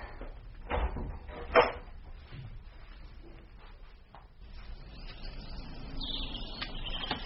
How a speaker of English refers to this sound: If you could just open the door...